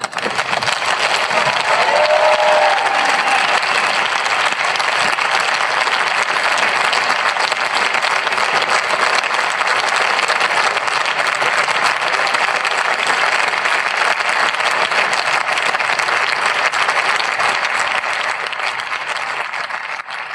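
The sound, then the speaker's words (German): Sustained, dense applause from members of parliament, steady and loud throughout with faint cheering mixed in, tapering slightly near the end: cheering after the vote that struck Paragraph 219a of the Criminal Code on 24 June 2022, members standing as they applauded. “Ja, was wir hier gehört haben, ist der Jubel über die Streichung des Paragraphen 219a Strafgesetzbuch.”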